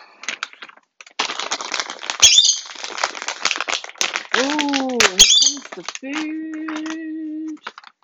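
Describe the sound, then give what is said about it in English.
A pet bird squawks loudly, mixing raspy, scratchy bursts with sliding, tonal calls, ending in a sustained nasal squawk. “So, thusly, therefore, I don't make some crazy noise. Like this bird!”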